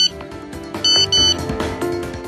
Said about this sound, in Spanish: El despertador que suena en este instante y que de repente he pensado que estaba viviendo un sueño en lugar de saludaros, pero no, es la realidad, estamos en directo